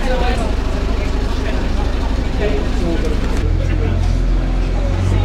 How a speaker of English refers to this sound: We just had to pause there because there was a very big old lorry that was going by.